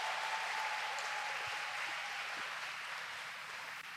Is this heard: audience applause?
yes